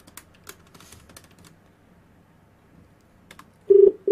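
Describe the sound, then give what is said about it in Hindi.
A quick series of keypad clicks as a phone number is punched in, a short pause, then a steady electronic ringing tone starts on the line, fairly loud. “Hello, phone कर दिया, दोबारा मिलाओ.”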